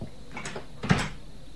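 A door swings shut with a brief scrape of movement followed by a single solid thud, moderately loud, with no voices.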